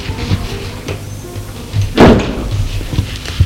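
A gate swings open with a single loud, rattling clunk partway through, set against a low, steady rumble of background noise. There is no speech.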